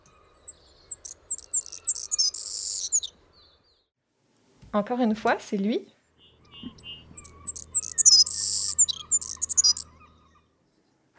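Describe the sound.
A bird sings two high-pitched, twittering phrases of rapid chirps with a slightly scratchy edge, separated by a brief spoken remark, with a faint low hum underneath the second phrase.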